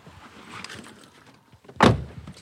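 Soft shuffling and movement of someone getting into a rental car in a dark parking lot, then a single heavy car door thuds shut, followed by quiet rustling inside.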